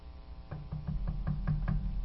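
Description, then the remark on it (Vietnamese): A woman knocks softly on the door of a room: a series of soft, muffled knocks, about six or seven taps in a fairly steady rhythm, with a low hum underneath and no voices. “Một lúc sau thì có cái tiếng giày sột soạt, thì nàng đành đánh bào để gõ khẽ vào cái cánh cửa.”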